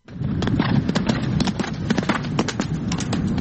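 Galloping racehorse hooves pound in a rapid, irregular rhythm of sharp thuds over a constant low rumble, sustained and fairly loud throughout, during a race at the Belgrade hippodrome near Careva Ćuprija.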